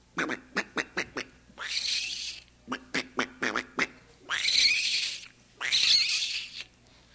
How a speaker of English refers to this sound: Further inland, you'll hear the gray squirrel.